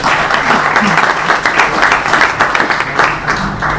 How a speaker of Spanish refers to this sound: Un aplauso para ella.